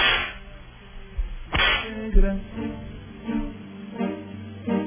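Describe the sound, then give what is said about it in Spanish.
A single sharp whip crack snaps out loudly, a quick cutting smack that stands out over a steady murmur of background sound. “Dar un latigazo y vamos a ver qué temas quieren que nos distraigamos.”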